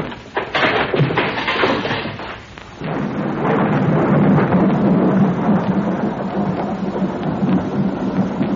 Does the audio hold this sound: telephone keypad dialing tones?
no